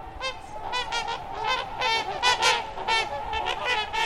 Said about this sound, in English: With up to 9-foot wingspans, trumpeter swans are the world's largest water birds.